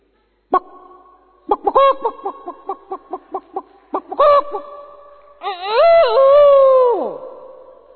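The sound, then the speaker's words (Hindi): A person imitates a hen alarmed at the sight of a cat: a sharp cry, then a quick, rhythmic run of clucks, and finally a loud, drawn-out squawk that falls away at the end. The voice is clear. “बिल्ली को देख के मुर्गी कैसे करती है?”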